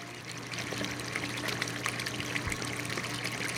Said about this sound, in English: Clean salt water is constantly pumped into the 15 tanks that hold the huge reptiles.